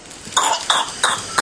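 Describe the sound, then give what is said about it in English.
A 7-week-old baby boy in hospital coughs in a rapid fit of whooping cough: four short, harsh bursts in quick, even succession, fairly loud, with no voices. “He was due to be vaccinated against whooping cough in the next week.”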